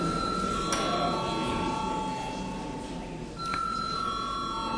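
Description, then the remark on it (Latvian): A parliament chamber bell in the Latvian Saeima rings continuously in a steady, high-pitched electric tone, calling deputies to a vote. It falters briefly near the end before resuming, over a faint background murmur. “Lūdzu zvanu.”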